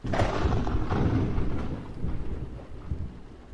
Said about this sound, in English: Afraid of the storm?